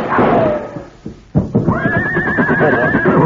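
A horse whinnies loudly, a long rising and falling neigh after a brief lull, with faint hoof clatter and rustling underneath and no one speaking.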